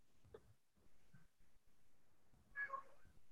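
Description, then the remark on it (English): A newly acquired male cat meows once, a clear, drawn-out cry near the end, preceded by a couple of faint, brief mews in otherwise quiet surroundings with no one talking. “Although I think I just heard somebody's cat.”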